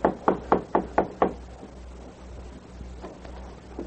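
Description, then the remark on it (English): Six quick, firm knocks on the wooden door of a cabin in an even rhythm, distinct, followed by quiet background with a faint low hum and a few soft thumps. “Art knocked on the door.”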